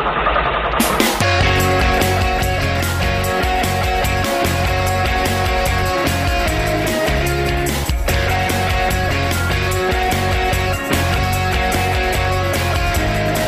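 A loud song kicks in after a brief quiet moment and plays steadily, with a driving rhythmic beat and dense, full-band instrumentation throughout; no clear talking over it.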